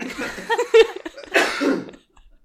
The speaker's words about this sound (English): You've had like the statute of limitations on you coughing in podcasts has run out